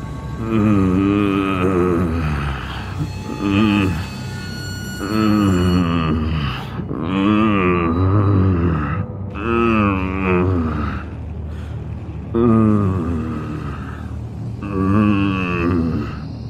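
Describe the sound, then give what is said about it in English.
Low, drawn-out groans repeat one after another, each a deep voiced moan with wavering pitch, loud and steady with short breaks between them, sounding almost animal-like, coming from an office. No speech. “They had been repeating the whole time, groan after groan, low, like an animal.”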